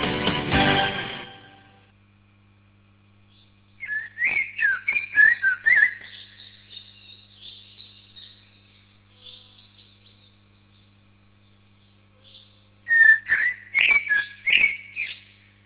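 Common blackbird song in two separate bursts of fluty, warbling whistled phrases, clear, with a long quiet gap between them over a faint low hum.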